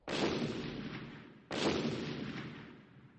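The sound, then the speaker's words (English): Two heavy blasting explosions from a company excavating near a river go off about a second and a half apart, each a sudden loud boom with a long rumbling decay, with no voices. “Then I heard an explosion. The company was excavating near the river.”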